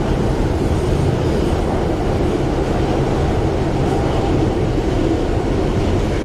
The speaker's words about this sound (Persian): یک ساعت بعد. تونل مترو.